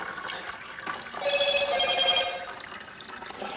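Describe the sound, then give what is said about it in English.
A few short electronic phone message notification chimes sound in quick succession, fairly soft, over a steady wash of running water as a stir stick is rinsed while mixing fixer chemicals; no one speaks. “Sounds like I'm a pretty popular guy today. I'm gonna have to see what messages I'm getting sent.”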